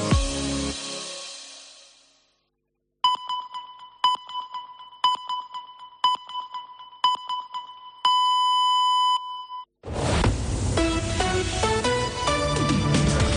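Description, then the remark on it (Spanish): A radio time signal for half past one in the afternoon on COPE Catalunya i Andorra: five short, clear electronic pips spaced one second apart, then a longer sustained tone, set between fading music and music starting up again. “Senyals horàries de dos quarts de dues del migdia.”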